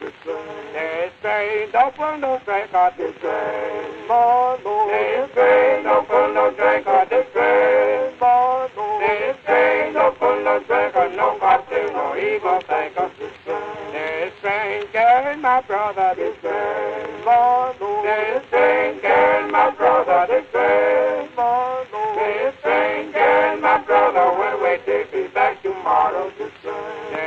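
An old, muffled gospel recording of a vocal group singing in harmony, voices rising and falling steadily for nearly half a minute with a thin, narrow, lo-fi tone.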